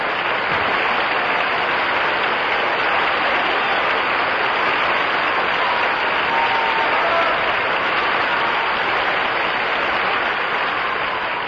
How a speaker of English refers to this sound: principals, Helen Jepsen, Richard Crooks, and A.C.O. Keenzer, are responding to the applause of the audience to Boston Opera House. Here they are again.